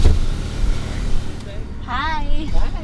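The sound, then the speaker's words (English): A car engine rumbles steadily as cars arrive at a drive-through testing site at the Little Bighorn Casino in Crow Agency, with low road noise filling the background, while a faint voice briefly speaks near the end. “The testing site at the Little Bighorn Casino in Crow Agency saw a steady stream of cars Wednesday.”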